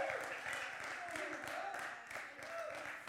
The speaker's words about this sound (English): Give God a hand clap of praise this morning. He is worthy.